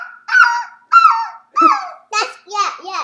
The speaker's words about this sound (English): They make that noise. So yeah, zebras can actually bark. I did not know that. No, it's not like a dog. Dogs will go like this. Mm-hmm. But zebras, on the other hand, go oh, oh. Their barks do sound different, yeah.